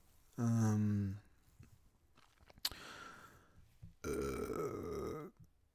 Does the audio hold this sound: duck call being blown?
no